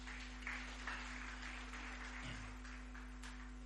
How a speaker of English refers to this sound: Glory to God. Give the worship team a big hand clap. Give your neighbor a clap for coming and worshiping.